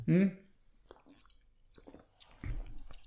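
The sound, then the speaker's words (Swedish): Quiet slurping sips and small wet mouth sounds as a person drinks a fruity raspberry sour beer, opening with a short hummed voice and ending with a louder gulp-like swallow. “Nu ska jag ta en klunk här.”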